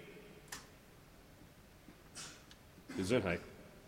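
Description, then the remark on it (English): A single sharp sneeze bursts out near the end, short and loud against a quiet background, with a couple of faint brief noises before it. “Gesundheit again.”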